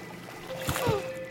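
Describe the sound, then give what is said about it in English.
Two quick splashes of water, moderately loud, land a fraction of a second apart over a faint steady hum, with a brief watery swish between them. “I gotta admit, these water noises are kind of cool.”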